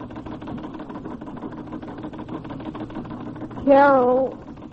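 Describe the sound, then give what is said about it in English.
A sewing machine in a bedroom, with a woman seated before it, runs steadily with a fast, even mechanical whir and chatter. Near the end, a brief voice rises over it. “She finds her in her bedroom, seated before her sewing machine.”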